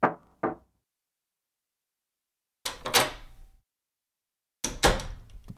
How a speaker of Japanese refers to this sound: 私は今日も学校を休んだ彼の家へと足を運ぶ。預かっている合鍵で家に入り、部屋の扉をノックする。